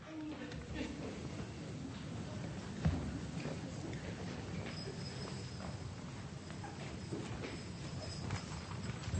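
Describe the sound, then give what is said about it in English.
A train runs steadily, a continuous low rumble with rhythmic clattering beats and a thin, high metallic squeal that rises over the noise partway through. “Didn't know we had a train in here, did you?”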